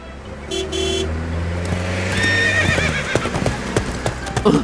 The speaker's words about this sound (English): The horse sees the car. The horse runs with the car.